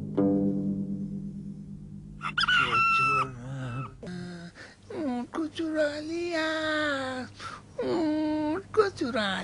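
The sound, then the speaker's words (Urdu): A rooster crows and squawks in several loud bursts, the strained calls rising and wavering, following a low steady drone at the start. “تعجب ہے تیرے شور پر، تم مرغ ہے یا مرغی؟”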